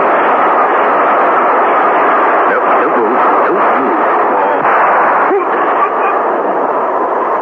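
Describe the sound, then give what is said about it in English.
A train screams through a station in one loud, unbroken roar that holds steady for the whole stretch, with faint rhythmic clatter pulsing underneath and no voices. “As the train screamed through the station, the revolver shot that killed Mark Lucas was not heard.”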